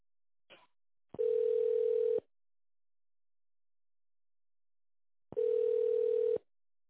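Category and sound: signal or alarm, telephone ringback tone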